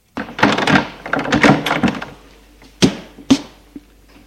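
A front door being opened to a visitor who rang: about two seconds of rattling latch and handle clatter, then two sharp wooden thunks and a faint final tick. No voices.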